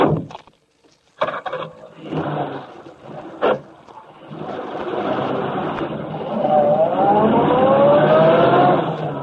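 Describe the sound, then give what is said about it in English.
A few sharp thumps, like car doors shutting, then a car engine starts up and revs, its pitch climbing steadily as it pulls away. The engine is loud, with no talking. “You're going riding with us.”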